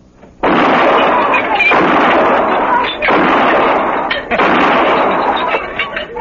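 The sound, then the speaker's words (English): A loud, sustained barrage of gunshots and shattering glass as a gunman shoots glasses lined up on a saloon bar, roaring in four long crashing bursts separated by brief dips, with no voices over it. “Pick off some of them glasses all lined up so nice and pretty.”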